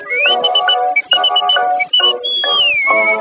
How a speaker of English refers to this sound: Policeman Murphy met his pretty dear. The boy sneaked up and whistled in his ear.